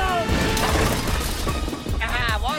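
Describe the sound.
A loud, cluttered crash of a wooden catapult being smashed apart by a flaming projectile, a burning metre-wide button kicked by Mongo, splintering and banging under a man's voice talking over the chaotic noise.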